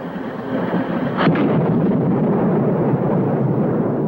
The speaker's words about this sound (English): Picking up speed, the truck careens down a steep road. The American jumps out of the truck and tumbles head over heels down a steep bank of gravel and stones. The truck plunges off a cliff.